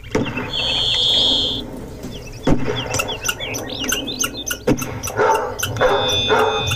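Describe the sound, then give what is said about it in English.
Part of an exhibit's backyard soundscape played from a doghouse: a dog barks in short bursts toward the end, responding to a couple of sharp gunshots earlier, set against steady Alaska songbird singing and chirping. “But we laid on top of that a barking dog who responds to a few gunshots, occasional falling tree, a saw, car pulling up, that kind of thing.”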